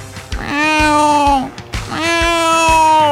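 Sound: cat meowing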